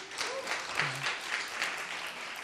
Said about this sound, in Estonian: Sa oled aplausi ära teeninud. Ja, aitäh.